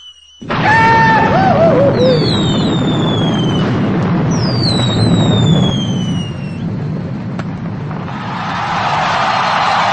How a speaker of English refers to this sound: It's called Let's Use These New Year's Eve Fireworks and Let's Blow Your Fucking Trash Can to the Shit House. Let's see how that sounds.